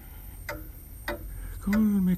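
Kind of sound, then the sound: household object, pocket watch ticking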